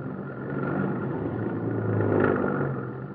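A car engine accelerates hard as the car weaves through traffic, its loud, low rumble building steadily to a peak near the end before easing off slightly as the car pulls away. No one speaks.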